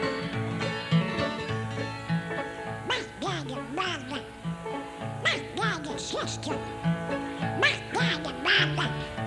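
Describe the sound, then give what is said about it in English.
Duck-like quacking sounds, several short nasal bursts, repeat over a steady musical backing with a bouncing bass line. They sound like an imitation woven into the music rather than a real duck. “Hey, this is the part like a duck.”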